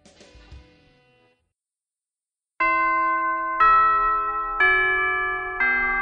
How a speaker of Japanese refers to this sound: はい、それでは、チャイムも鳴りましたので、そろそろ帰りましょうということで。